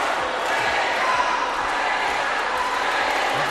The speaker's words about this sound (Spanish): Cientos de vecinos llenaron el recinto e interrumpieron con aplausos, gritos y abucheos las distintas intervenciones desde el principio.